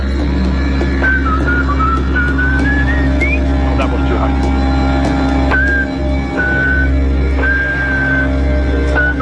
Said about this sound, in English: So it's a voice test as the capsule goes around the dark side of the moon. We'll see if the air crystallizes. The whistling is so we can track it.